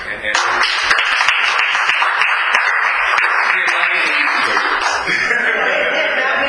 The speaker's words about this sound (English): And I think that we need to give him and his office a big round of applause, because I have not seen this kind of cooperation from D.C. government in a long time.